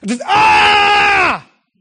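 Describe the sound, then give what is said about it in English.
A man lets out one loud, drawn-out scream lasting just over a second. It is steady before dropping off at the end, with no talking around it. “You know, it was like this, all this energy, I didn't know what to do. And so I would just scream.”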